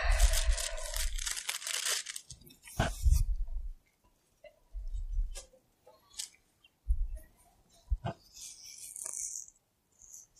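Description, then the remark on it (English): Thin Bible pages rustle and flip in several quick, papery bursts with short pauses between them, a louder flurry at the start and softer turns after, with no one speaking. “let's flip back to 1 Peter chapter 3. Let's flip back.”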